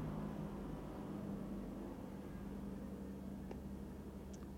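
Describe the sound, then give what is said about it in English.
A helicopter drones steadily overhead in the evening, a continuous low engine hum with a faint tonal whine that holds for the whole stretch. A few faint chirps from birds coming in to roost sound near the end. No one speaks. “That helicopter coming over.”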